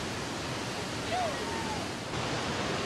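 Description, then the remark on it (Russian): A steady, dense roar of a raging waterfall, with spray and millions of water droplets filling the air around it, fills the whole recording. It is loud, like a constant rush of crashing water, with a faint brief tone passing over it midway. “Однако покорить бушующий водопад оказалось нелегко.”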